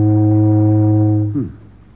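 A loud, steady steamboat whistle blows one long, low, droning blast with rich harmonics, then cuts off abruptly with a slight downward pitch bend, leaving a faint rumble.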